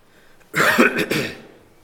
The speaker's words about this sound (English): bear with my voice tonight, I developed a cough today.